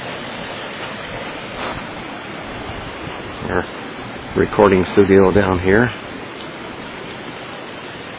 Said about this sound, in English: The creek is coming up a little. The waters are getting a little muddy from all the melting from the snow.